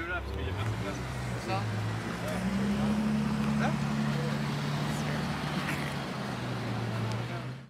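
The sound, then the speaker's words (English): A powerful Bentley taxi engine revs loud, its deep growl climbing in pitch then holding steady before easing off, over busy street noise with faint voices in the background, on the way to the port. “Oh yeah, the taxis are like crazy cars.”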